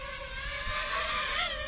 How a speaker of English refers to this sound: It sounds very different from some of the other bigger drones that have bigger propellers. Yeah. If you're familiar with drone sounds, like if you imagine a helicopter, it's got the big propeller, it's got this deep sound.